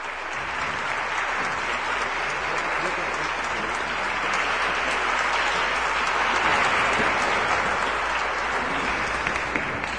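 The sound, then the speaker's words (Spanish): Sustained applause from an audience welcoming a speaker at the Cátedra Latinoamericana Julio Cortázar at the University of Guadalajara, a dense, steady wash of clapping that holds at an even loudness for the full ten seconds, with no voices rising above it. “Les pido que le demos la bienvenida con un aplauso.”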